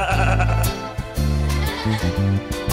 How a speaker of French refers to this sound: Il y a Zonzon, tout petit mouton qui belle.